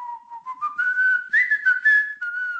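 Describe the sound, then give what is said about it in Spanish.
A person whistles a short melodic tune, the pitch gliding up and down in a steady, fairly loud line with no other sounds or talking. “creéis que era una canción, soy yo silbando.”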